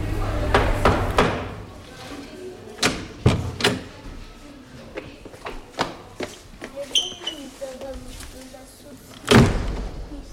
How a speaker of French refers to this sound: Toquer et ouvrir la porte.